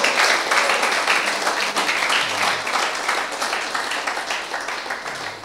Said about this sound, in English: I'd like to give the Lord a hand this morning. A round of applause, a praise, a shout in the congregation.